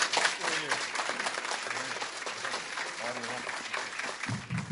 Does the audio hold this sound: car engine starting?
no